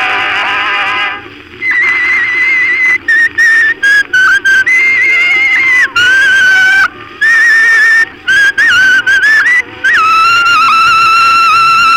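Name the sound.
person whistling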